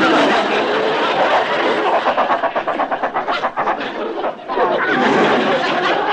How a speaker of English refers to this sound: Sorry, I couldn't hear you on account of the giant chicken. The giant chicken. Giant chicken?